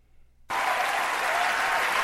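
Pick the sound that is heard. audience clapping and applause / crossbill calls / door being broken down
audience clapping and applause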